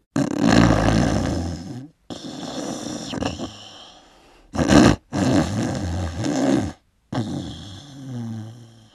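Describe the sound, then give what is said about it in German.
Loud, rumbling snores repeat in long rasping breaths with short gaps between them, heavy, with no talking. “Die Ellermutter lauste den Teufel wieder, bis er einschlief und schnarchte, dass die Fenster in der Hölle zitterten.”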